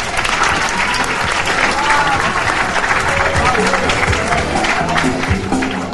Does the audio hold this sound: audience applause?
yes